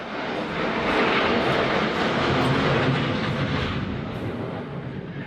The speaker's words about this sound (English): That's an F-18 Super Hornet. And this is what one of them sounds like flying right over your house.